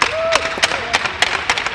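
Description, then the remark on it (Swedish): A handful of sharp, evenly spaced hand claps ring out at a steady pace, moderately loud, applauding a group, with a faint voice-like hum and room noise underneath. “Vi applåderar er!”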